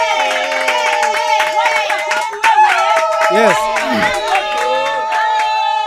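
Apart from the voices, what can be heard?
audience clapping and cheering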